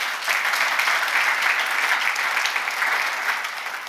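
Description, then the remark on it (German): An audience claps steadily for the viewers this morning, a dense wash of many hands producing continuous bright, crackling applause at a fairly loud, even level throughout, without any talking. “lass uns nochmal klatschen für die Zuschauer heute Morgen.”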